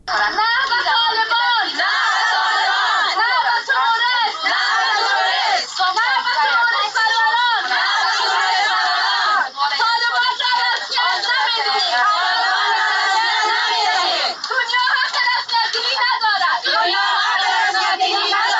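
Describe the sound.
A crowd of Afghan women chanting and shouting in protest in Islamabad, Pakistan, against one year of Taliban rule and violations of the rights of women and girls; voices dense and continuous at a steady loud level, with overlapping cries and rising calls throughout.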